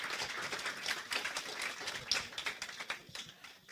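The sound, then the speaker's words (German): A crowd claps for several seconds, a dense patter of many overlapping hand claps at a steady moderate level, with no voices standing out. “Ich möchte einmal klatschen dafür.”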